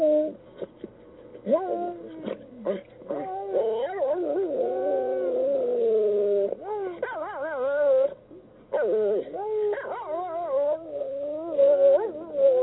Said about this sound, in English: Come on, sing for me. Come on, sing for me. Oh, you silly dog. That was LBJ and, of course, Lady Bird talking about Yuki, one of the last of their dogs.